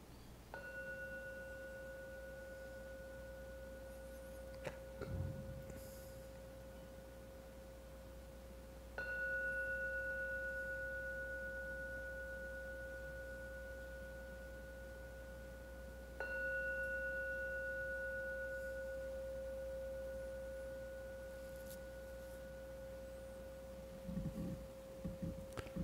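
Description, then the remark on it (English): A gong is struck three times to mark the start of a meditation, each stroke leaving a steady, humming tone that slowly fades as it rings on, with no voices in between. “Please wait and listen to every ringing of the gong. When the last vanishes, come out for your meditation.”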